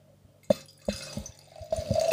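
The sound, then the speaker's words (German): Wine that the speaker brought along glugs into a glass in a few uneven splashes, then settles into a steady pour whose ringing tone climbs in pitch as the glass fills. No one speaks. “Wir trinken den Wein, den ich mitgebracht habe.”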